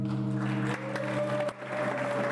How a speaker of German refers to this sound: Kurzer Beifall, dann wird wieder andächtig gelauscht.